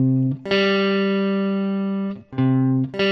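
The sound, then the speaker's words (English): A perfect fifth on a bright, buzzy electronic tone, two notes sounding together: a short stab, one long sustained hold, then two quick repeats, loud with no talking. “So there's my perfect fifth.”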